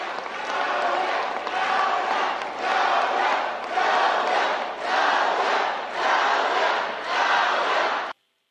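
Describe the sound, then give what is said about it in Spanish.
A large crowd at a Morena party rally roars and applauds for deputy health secretary Hugo López-Gatell, the loud, dense noise swelling in regular waves as if chanting in rhythm, then cutting off abruptly. “El aplausómetro también subió de tono con el subsecretario de Salud, Hugo López-Gatell, aunque los abucheos de nuevo destacaron”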